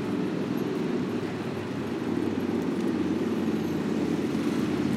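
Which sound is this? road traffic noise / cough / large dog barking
road traffic noise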